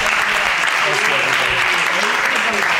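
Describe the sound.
Steady audience applause, a dense wash of many hands clapping at an even, loud level throughout, with faint voices mixed underneath.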